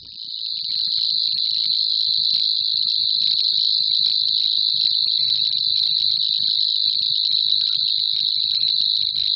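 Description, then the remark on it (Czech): A Savi's warbler's reeling song, a continuous, insect-like buzzing trill held steadily at one high pitch for the whole stretch, loud, with no voices present. “Nejvzácnější v té době byla právě cvrčilka slavíková, která obývá rozsáhlejší rákosiny a obtížně ji lze při zpěvu pozorovat.”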